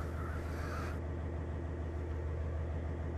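The engine of a large Bandit Beast Grinder, a mulch-making machine about 16 feet long and 5 feet wide that grinds stumps, runs steadily at a low, heavy rumble, loud, with a brief hissy high-pitched layer in the first second before settling into a constant drone.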